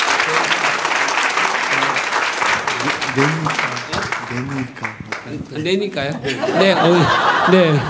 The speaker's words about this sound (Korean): 네 박수 한번 드릴까요? 네.